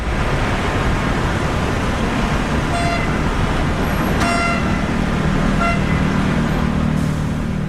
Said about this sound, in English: The afternoons during the high tea and rush hours, especially during the weekends, is when the most people are out and about, bringing the hum of the city to a chaotic fever pitch.